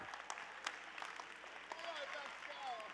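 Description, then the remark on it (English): An audience stands and claps their hands to the Lord in praise of God, a dense, steady wash of applause, with voices calling out over it and a few rising and falling cheers toward the end. “Let's stand to our feet and clap our hands to the Lord and give God praise.”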